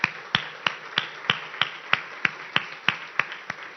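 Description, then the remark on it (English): Steady, evenly paced applause from an audience, with about a dozen sharp claps falling in unison at a quick, regular beat over a faint background hiss. No one speaks. The applause thanks an absent woman, Marianne. “Can we give Marianne a big, big round of applause?”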